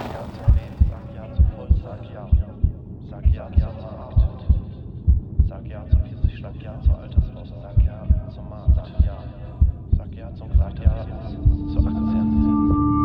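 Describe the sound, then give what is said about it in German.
A steady heartbeat sound effect in a homemade audio piece thumps in regular low pulses, prominent, over a faint droning hum; a low tone swells in near the end. “Mein Puls ist normal.”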